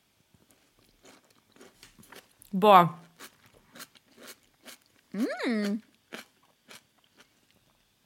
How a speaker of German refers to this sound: Die Schmatzgeräusche, sorry, Leute.